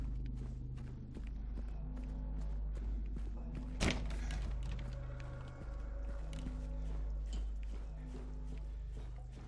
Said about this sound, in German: Jetzt versuche ich mal die Tür mit dem S dran, ob die jetzt offen ist.